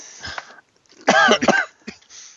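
coughing

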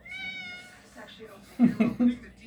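cat meowing

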